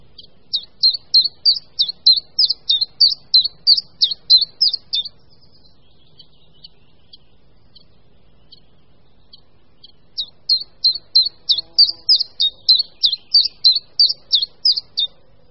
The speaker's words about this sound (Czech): V létě zpěv umlká, ale po proběhlém hnízdění a pelichání se začínají občas budničci menší ozývat znovu, zejména za jasných podzimních dnů až do listopadu.